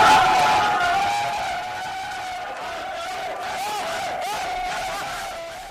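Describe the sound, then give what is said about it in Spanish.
Players whoop and cheer in a rowdy celebration while the coach shouts loudly over the group as buckets of icy water are poured over him. The excited yelling holds steady for several seconds before easing slightly. “Los gritos del entrenador, que, los que el agua, son cubos de agua helada.”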